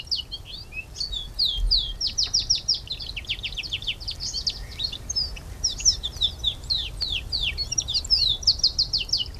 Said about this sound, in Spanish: Escuchamos el canto del canario con las notas sexy, las sexy syllables.